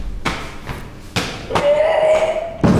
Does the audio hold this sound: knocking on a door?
yes